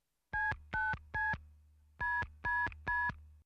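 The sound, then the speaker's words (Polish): Six short telephone keypad tones beep in two quick groups of three as a man dials a phone call to order mineral water, each a steady dual-pitched chirp, heard clearly over a low hum with no voices. “rozmawia przez telefon.”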